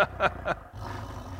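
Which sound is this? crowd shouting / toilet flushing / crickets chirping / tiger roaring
tiger roaring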